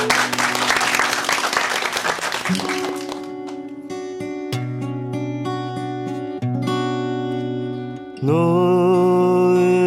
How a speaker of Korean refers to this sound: 네, 박수와 함께 청해 듣도록 하겠습니다.